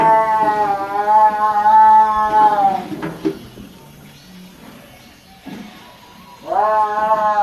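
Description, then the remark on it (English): A drawn-out, wavering yowl from a caged tiger pacing back and forth in a row of cages under a tent, loud, breaks off after a few seconds; quieter clatter and rustling follow before a second howl rises at the end. “And there were rows of cages and tigers pacing back and forth and yowling. Have you ever heard a tiger yowl.”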